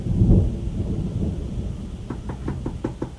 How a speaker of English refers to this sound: Good heavens, who's out in this rain?